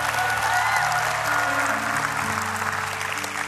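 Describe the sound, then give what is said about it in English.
An audience at Rhema Bible Church claps together in a loud, dense burst of applause, steady throughout with a low sustained organ or keyboard tone underneath and faint voices mixed in. “Give them a better hand clap than that.”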